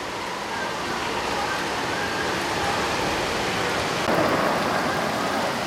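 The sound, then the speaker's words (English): Heavy rain pours down in a steady, dense hiss that fills the whole recording, loud with no pauses, like a downpour drumming on surfaces. “It's pouring down rain.”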